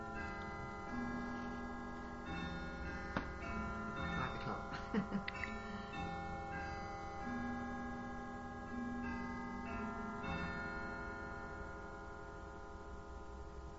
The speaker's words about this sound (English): It's a lovely clock, then. It is, the tolling of the bell, yeah.